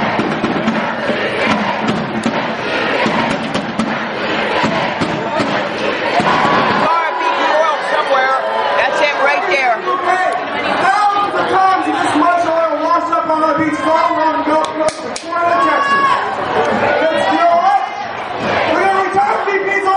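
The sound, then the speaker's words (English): A large crowd of protest marchers arrives at BP's headquarters in Washington, D.C., many voices shouting and chanting together, loud and continuous, with scattered thumps and bangs breaking through the din. “Here it is, the main Powership crew rolling in on BP.”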